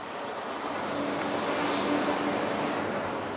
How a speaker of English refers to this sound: There goes a garbage truck anyway.